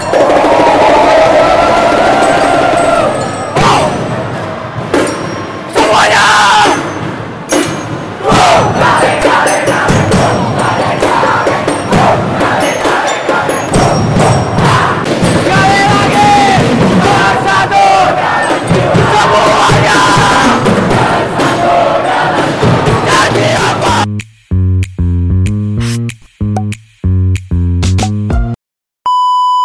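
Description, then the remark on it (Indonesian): A large crowd at a basketball game roars and shouts as loudly as possible at full volume for about 24 seconds in a dense, continuous wall of voices, then it stops abruptly and a series of electronic beeps follows. “Gua mau suaranya sekencang-kencang mungkin ya.”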